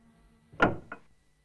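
A solid safe door swings shut with a heavy thud, followed by a brief second knock as it settles, then quiet.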